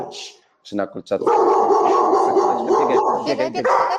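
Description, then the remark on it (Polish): A dog barks: a few sharp, separate barks at first, then a loud, nearly continuous stretch of barking and yelping that runs to the end. “I teraz tak, jeżeli pies szczeka, to ja chwalę go za to, mówię super, że szczekasz, a za chwilę mówię dobrze, już widziałem, wszystko okej.”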